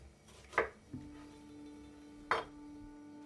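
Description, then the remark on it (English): A few crisp knife chops strike a cutting board as a woman chops an onion at a kitchen sink, spaced well apart and fairly loud, with a steady low hum running underneath and no one talking. “Inside, she stands at the kitchen sink, chopping an onion.”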